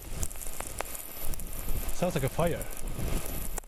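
Steady crackling static from the northern lights hisses from a small radio receiver no bigger than a smartphone, fitted with an antenna, in the icy expanse of northern Norway, broken by sharp pops and clicks, with a short burst of warbling, chirp-like tones near the middle before the crackle carries on.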